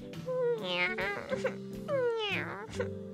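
Two drawn-out, rising-and-falling meows from Minù the cat, fairly loud, with a steady musical tone humming underneath.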